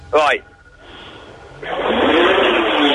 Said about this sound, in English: Can you hear the sound of that engine? Oh, Jesus! Oh, my God, she just did a kind of skiddy thing.